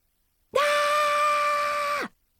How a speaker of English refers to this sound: That was me screaming in frustration. Trying to keep the secret is killing me.